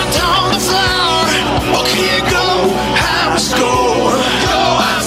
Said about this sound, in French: On crie go, let's go!